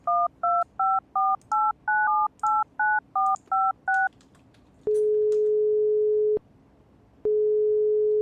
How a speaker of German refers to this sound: Versuch bitte jetzt mal diese Nummer, ja? Wähle sie vorsichtig und mit Bedacht.